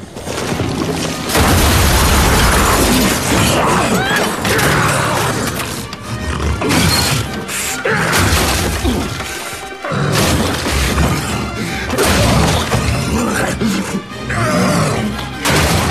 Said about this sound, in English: Morgarath, now in his ogre form, crashes through the roof after Jared.